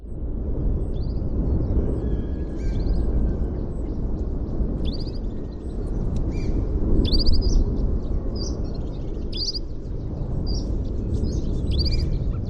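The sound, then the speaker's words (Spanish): A flock of wild canaries, the emblematic bird of the Canary Islands, sings on La Palma during the volcanic eruption in quick, high-pitched twittering bursts scattered throughout, layered over a loud, steady low rumble that never lets up. “Hay esto que suena, que es un bandito de canarios, canarios silvestres, es, ajá, el ave emblemática de las Islas Canarias.”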